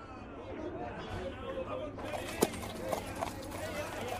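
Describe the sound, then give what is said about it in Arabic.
Donkey hooves clip-clop along a road under a hot sun in a few uneven steps as Juha and his son both ride on the donkey's back, heard over a steady murmur of background voices and ambient noise. “صغار الأحبة، فكر جحا في كلام المرأة فاقتنع برأيها وركب إلى جانب ابنه فوق الحمار، وأخذا يقطعان الطريق وكلاهما فوق ظهر الحمار.”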